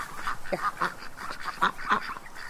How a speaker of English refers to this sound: going to go up and feed the duckies. Yeah. There they are now. And they're not supposed to be in the water.